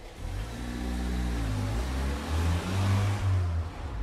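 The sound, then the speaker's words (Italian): A car engine revs, its deep growl climbing in pitch and then holding at a steady roar for a few seconds, loud and continuous with no voices. “Meno male che non faccio la sgommata.”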